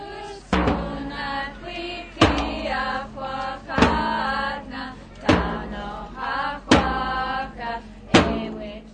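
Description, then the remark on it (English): An old traditional Alutiiq song performed live by a Kodiak Alutiiq dance group at a fair: several voices sing a sustained melody together, punctuated by a loud, steady drum beat roughly every second and a half, full. “That's a song from the Kodiak Alutiiq Dancers”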